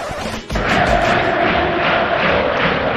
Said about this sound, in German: Okay, der FC Sevilla verliert das Spiel, aber hier jubeln die Fans.